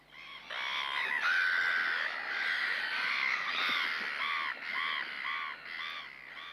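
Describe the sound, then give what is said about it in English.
A noisy chorus of gull calls, many harsh overlapping cries repeating without pause, loud, with no talking. “Gulls lay their eggs in grassy nests.”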